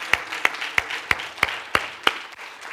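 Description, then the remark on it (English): An audience claps hands unto the Lord in a steady, even beat, about seven sharp unison claps over a softer wash of scattered clapping, with no voices. “Clap your hand unto the Lord.”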